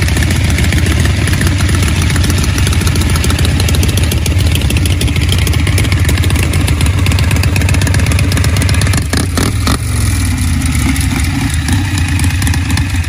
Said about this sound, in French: La moto arrive dans la cour.